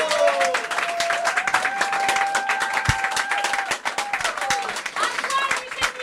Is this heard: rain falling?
no